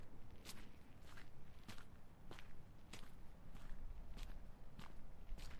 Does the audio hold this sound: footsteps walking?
yes